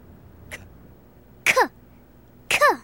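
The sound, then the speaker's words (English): A clock ticks with three evenly spaced, clipped 'k' sounds about a second apart, sounding like the letter C; the first is faint and the last two louder and throaty, over quiet background. “Or do you hear that clock? It sounds like it's making C sound.”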